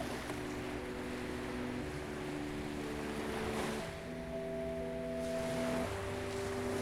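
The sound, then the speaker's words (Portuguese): A steady wash of gentle ocean waves lapping on the sand of a beach under sustained low droning tones, with no talking and an even, unbroken level throughout. “Ouça o suave som das ondas acariciando a areia.”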